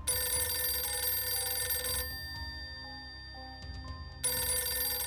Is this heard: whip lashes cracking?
no